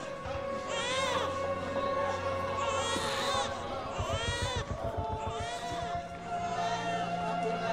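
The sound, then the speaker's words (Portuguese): A child in a film scene cries in repeated loud, wavering wails that rise and fall, over a steady background hum, with a brief rhythmic thumping midway. “E a criança começa a chorar.”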